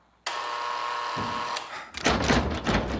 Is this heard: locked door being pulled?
yes